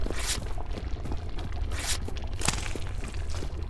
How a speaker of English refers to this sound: That sounds like a piece of paper being dipped into digestive juices, doesn't it?